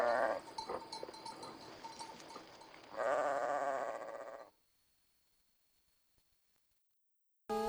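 Sheep bleat loudly, two drawn-out wavering calls, while small bells tinkle steadily underneath; the sounds then stop abruptly, leaving near silence.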